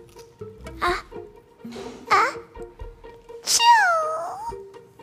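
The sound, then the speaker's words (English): A cartoonish sneeze from the baby elephant Dumbo (Jumbo Jr.): two short squeaky build-up bursts, then a loud sharp burst that trails into a high, wavering, falling squeal over a faint steady hum. “The little elephant's sneeze shook his whole body and unraveled his large ears.”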